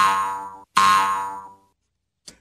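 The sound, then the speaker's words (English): Two loud, twangy cartoon boings of a bunny bouncing, one right after the other, the second ringing out a little longer, followed by a faint short blip. No voices. “But anyway, I heard birds, but I did not hear the bunny bouncing through the neighborhood making that sound,”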